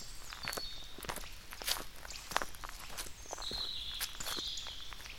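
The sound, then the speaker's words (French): Footsteps crunch steadily along a small garden path between vegetable beds, a regular walking rhythm of gritty steps, while thin birdsong chirps high above. “Donc là, je viens d'avancer sur le petit chemin où je suis passée entre des carrés potagers et je m'arrête devant un affichage.”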